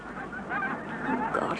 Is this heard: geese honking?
yes